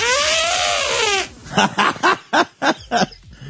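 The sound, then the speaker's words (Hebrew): On a live broadcast, a person imitates an elephant on request with a loud, brassy trumpeting wail that rises and falls for over a second, followed by several quick, rhythmic bursts of laughter. “הבת של מעוז רוצה לשמוע פיל.”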